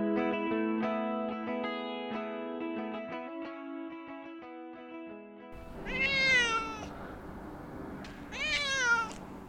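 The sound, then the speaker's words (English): Picasso, a good-sized cat splashed with white, brown and black, stuck 40 feet up in a tree, lets out two loud, drawn-out, agitated meows a few seconds apart, right after a stretch of sustained musical tones ends. “Picasso is a good-sized cat that looks like he's been splashed with white, brown, and black paint.”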